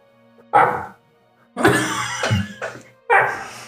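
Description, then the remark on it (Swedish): A dog gives three low, soft barks with a small, puppy-like yelp to them, each one echoing briefly, with short gaps of quiet in between. “Det är som ett litet valpskall.”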